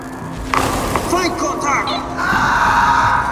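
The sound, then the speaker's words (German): A shrill, wavering scream echoes through underground passages over a low, rumbling background, its pitch sliding up and down, followed by a sustained harsh noise that swells and lingers. “Dann gellte ein Schrei durch die Gänge.”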